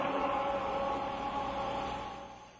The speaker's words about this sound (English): I couldn't hear anything, man, because there were race cars going by you.